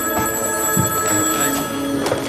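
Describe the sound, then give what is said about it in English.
An office telephone rings continuously, a steady electronic trill holding for a couple of seconds with no voices over it. “She picks up her office phone.”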